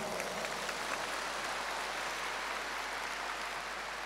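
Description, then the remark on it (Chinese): An audience claps steadily throughout, a dense, even wash of many hands applauding at moderate volume with no pauses and no voices. “你们不鼓掌，我看不动了。”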